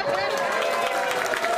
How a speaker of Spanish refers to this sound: Un aplauso a la sinceridad.